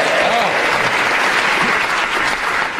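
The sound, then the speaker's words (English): A burst of quiz show audience applause after the answer Gatsby, dense and steady clapping from many hands at a loud, even level, with faint voices murmuring underneath. “The person who applauded when he said Gatsby, please stand up.”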